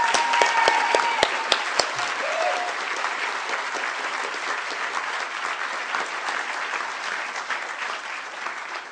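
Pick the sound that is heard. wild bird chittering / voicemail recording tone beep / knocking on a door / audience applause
audience applause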